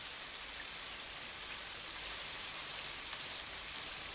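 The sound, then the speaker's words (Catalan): Steady rain pours down in a dense, even hiss, with a constant patter and no voices; the rain is now falling less heavily than before. “Ja no plou tan fort. A veure si para d'una vegada.”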